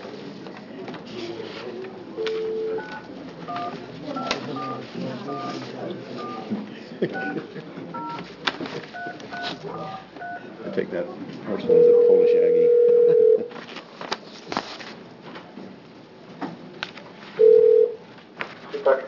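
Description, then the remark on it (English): A series of short dialing tones beeps in quick succession as a phone call is placed during a state senate committee hearing on a bill, then a steady dial tone sounds twice, loud and sustained, with people talking quietly in the background. “So we're going to try to make our phone call again that we made a little earlier, and that's for Senate Bill 325.”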